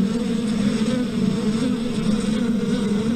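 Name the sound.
buzzing bees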